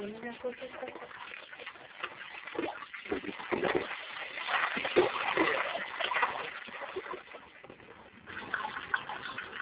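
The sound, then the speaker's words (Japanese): Steady trickling and splashing of water from the Konpira Shimizu spring, a town spring that has long given passersby water to drink, runs throughout, with a faint voice briefly audible near the start. “川の港の時代から行き交う人の喉を潤してきたコンピラ清水。”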